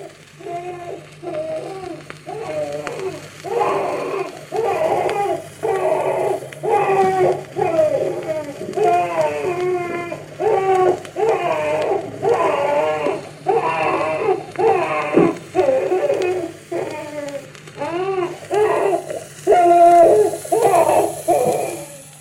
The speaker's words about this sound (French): Et cette petite étiquette nous indique qu'il y a sur ce disque des enfants au guignol, des enfants qui pleurent et des pas de chameau.